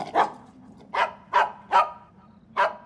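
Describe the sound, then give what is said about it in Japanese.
A dog named Taro barks five times in sharp, aggressive bursts at an uneven pace, loud, toward the far end of a path in a forbidden mountain forest, with a low rumbling hum underneath and no voices. “太郎はまるで何か恐ろしい敵を威嚇しているようでした。”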